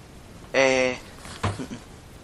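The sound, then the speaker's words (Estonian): A drawer squeaks loudly as it slides open while a child rummages in the drawers, followed by a few short knocks and rattles of things being moved around inside. “Sahtlites ei sori, sahtlites ei tohi sorida.”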